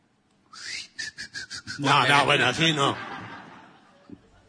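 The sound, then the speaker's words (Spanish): A person whistles a thin, high-pitched tone that breaks into several quick pulses, imitating the ringing one hears in silence, then a voice follows with chuckling, laugh-like sounds. “Chifla. ¿Cómo haces? Sentís un chiflido.”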